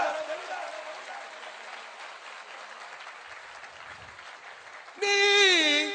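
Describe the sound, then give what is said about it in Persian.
An audience in Tehran claps steadily for about five seconds, a dense, even wash of applause, before a loud voice cuts in over the fading claps at the end. “بچه ها تهران کف بزنم ببینم.”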